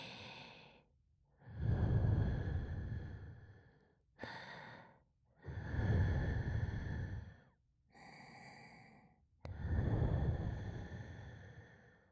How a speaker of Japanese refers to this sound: たっぷりの吐息を入り口あたりに。